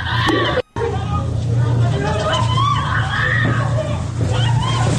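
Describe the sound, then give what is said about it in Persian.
Two young girls of about 14 or 15 scream and shout in high, strained bursts as plainclothes agents forcibly arrest them in Fardis, Karaj, amid agitated crowd voices, with a steady low rumble underneath and a brief dropout early on. “اصلا عجیبن غریبا این صحنه جیغ و فریاد دوتا دختر بچه توی فردیس کرجه که برادران لباس شخصی به زور دارن بازداشتشون میکنن.”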